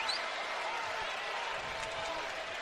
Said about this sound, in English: And the West Virginia fans applauding the effort on the loose ball.